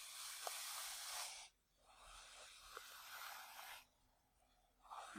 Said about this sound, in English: Here, let me brush your hair.